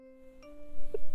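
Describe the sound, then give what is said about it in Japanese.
A school chime rings out to mark dismissal time, sustained electronic tones holding steady and swelling slightly louder as a new note sounds near the end, heard alone at moderate volume. “いけない。下校時間のチャイムですね。”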